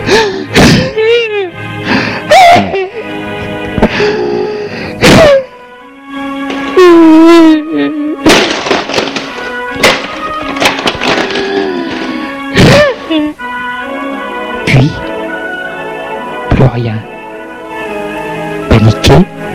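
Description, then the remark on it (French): A woman screams and wails in rising, wavering cries in a locked bedroom while objects are thrown to the floor, producing a series of loud, irregular thuds, bangs and crashes throughout. “Puis hurler et jeter des choses à terre.”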